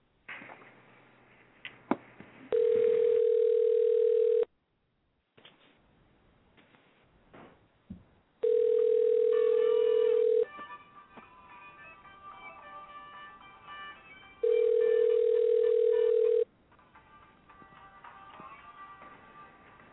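A telephone line as a radio station tries to call a guest: a few faint clicks, then three steady, loud mid-pitched tones, each about two seconds long and separated by quieter gaps with a faint hum. No one speaks.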